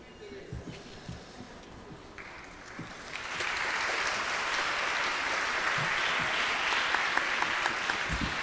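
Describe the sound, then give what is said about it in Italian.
An audience claps for the speakers, starting with scattered hand claps and swelling after a few seconds into steady, dense applause that holds to the end. “L'applauso naturalmente ai relatori, non all'ipotesi di chiusura.”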